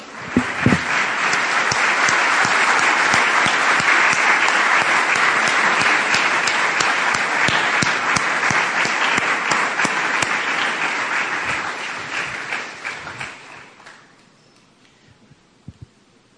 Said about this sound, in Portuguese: Podemos aplaudir o leão da tribo de Judá?